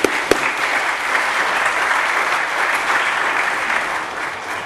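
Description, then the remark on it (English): A crowd at an event claps steadily for several seconds, a dense, even wash of many hands at a fairly loud level, tapering slightly at the end with no talking over it. The applause is for the organizations that helped bring the event about. “So how about we give them a big round of applause for helping us bring this event out.”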